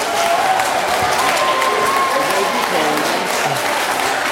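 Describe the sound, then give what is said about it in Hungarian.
Sustained audience applause for the representative of the Prohászka education centre's team coming forward at a naming-contest ceremony, dense and steady clapping from many hands at a loud, even level throughout, with faint voices and a few whistles mixed into the crowd noise. “Ott jön fentről, tapsoljuk meg!”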